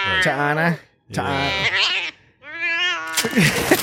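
cat meowing and yowling

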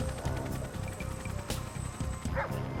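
dogs barking

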